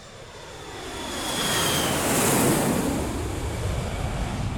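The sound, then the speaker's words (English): A steady airplane engine drone heard from inside the cabin aboard Millie's plane, a broad rushing roar that swells slightly in the middle and holds constant, with no voices. “Aboard her plane, Millie is looking miserable.”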